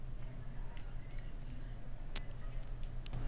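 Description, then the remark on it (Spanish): A container being uncapped for ASMR with a microphone held to it: one sharp, bright pop stands out over a low steady hum, with a few faint clicks and ticks of handling before and after. No one speaks. “ASMR destapándolo.”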